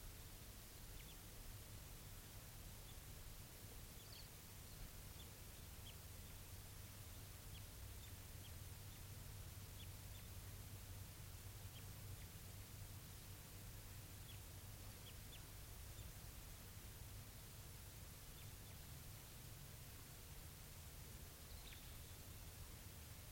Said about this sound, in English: That's a wild bird responding with 387. Type 2. Wild.